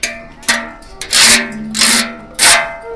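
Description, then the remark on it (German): A washboard scraped as a musical instrument at a mobile hands-on museum, in several loud, rasping strokes, each a broad scratchy burst with short pauses between, played like a rhythm instrument with no talking. “Jetzt ist hier ein Waschbrett und damit kann man, glaube ich, auch Musik machen. Ich probiere es mal aus.”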